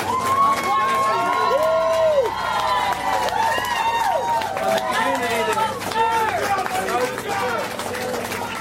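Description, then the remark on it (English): A large crowd of citizens of Luzerne County cheers and shouts continuously outside a courthouse, drowning out the prosecution's press conference, many voices rising and overlapping in a loud, sustained roar with excited whoops throughout. “Outside of the courthouse, the cheers of the citizens of Luzerne County drowned out the prosecution's press conference.”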